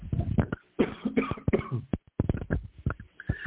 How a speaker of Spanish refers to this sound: perdón, que estoy con una pequeña tos todavía por aquí.